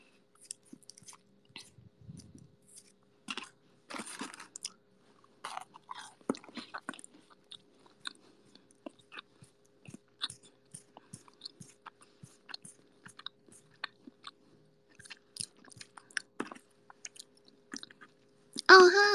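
Close-up munching on crunchy cookies, with irregular bites and chews crackling steadily for nearly twenty seconds, ending in a louder burst of noise.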